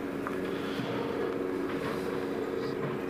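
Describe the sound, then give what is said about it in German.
Another helicopter drones steadily overhead, a continuous mid-loud engine rumble with a faint humming tone that holds even for a few seconds without fading. “Das ist schon wieder ein Hubschrauber, aber wir hatten schon einen.”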